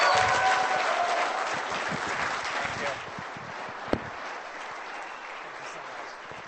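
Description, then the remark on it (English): An audience breaks into sustained applause, a dense wash of clapping that is strongest at first and then thins and softens toward the end, with one sharp clap standing out partway through. “Everybody give Abby a round of applause.”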